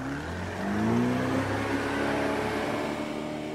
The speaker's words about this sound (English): And now, he and five other fishermen prepare their boat and begin motoring out onto the water.